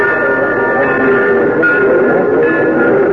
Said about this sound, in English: He came in on the noon train the following day.